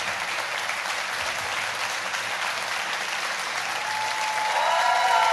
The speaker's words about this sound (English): Ladies and gentlemen, give a massive round of applause to No Such Thing as a Fish, …, who won't be in it for much longer.